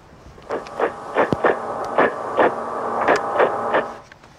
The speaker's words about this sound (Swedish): Så här låter knot, eller knorrhane, som är också en bottenlevande fisk som ser lite speciell ut.